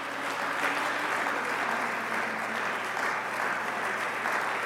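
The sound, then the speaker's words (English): A church audience claps steadily in praise for several seconds, a dense, even wash of many hands at moderate loudness, with no voices standing out. “And can you give him another hand clap of praise?”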